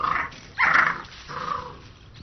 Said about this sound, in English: In the tall grass, a family of red foxes is raising its cubs.